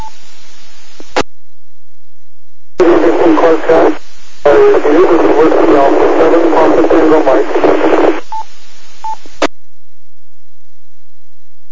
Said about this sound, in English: Hard to hear. You've got a lot of static there. Can you slow down just a little bit for me, and so that I can record that, please?